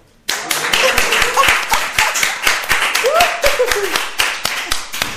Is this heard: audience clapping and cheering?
yes